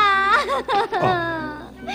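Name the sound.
child crying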